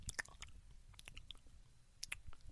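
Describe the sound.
A voice imitates someone chewing food with their mouth open: wet, smacking clicks and squelches repeating in an uneven rhythm, fairly quiet, with no talking.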